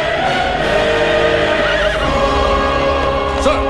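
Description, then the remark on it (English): Frollo's horse whinnies loudly with a wavering, high cry, hooves clopping beneath it, in a street in Paris as fires burn around the city, all set against a dense, roaring wall of background noise that never lets up. “In one street, Frollo, back on his horse, is with Brutish.”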